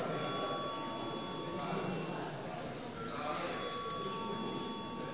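A continuous electric bell rings steadily throughout, a sustained metallic tone over a low murmur, as a parliamentary voting bell sounds after deputies request a vote on an amendment.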